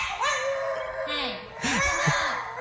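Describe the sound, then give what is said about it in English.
A dog whines and yowls in drawn-out, pitch-bending cries that rise and fall almost like speech, broken by a couple of shorter, lower yelps near the end, after its owner refuses to give it more Cheerios. “This dog loves Cheerios, but his owner decided he had had enough Cheerios, and the dog responded, listen.”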